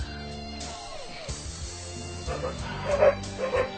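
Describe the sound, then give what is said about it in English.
A dog barks and yips in short, excited bursts, growing louder toward the end, with no one speaking over it. “And then the dog proceeds to bite the kid in the ass.”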